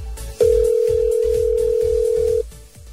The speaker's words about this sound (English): I've got the phone number in. We're going to call them right now.